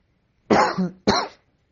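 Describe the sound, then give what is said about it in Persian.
Two harsh coughs in quick succession, the first with a rough throaty tail, then silence. No talking. “ببینید حالا چرا این رو میگم، این سرفه ها از کرونا نیستا، به قول اون سخنگوی بود تو سازمان بهداشت جهانی سرفه کرد گفت که اینا کرونا نیست.”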